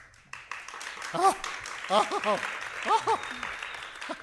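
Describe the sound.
A crowd of assembled fans in front of a tiny makeshift stage breaks into loud, sustained applause, a dense wash of clapping with several excited voices whooping and cheering in rising and falling yells over the top.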